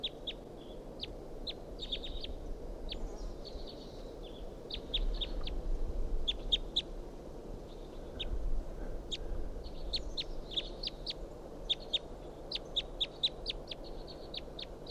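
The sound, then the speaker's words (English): A wild bird perched in a pine tree calls repeatedly in short, sharp, high-pitched chirps and trills, in irregular bursts over a steady low rumble of background noise; no one speaks. “Wild bird here.”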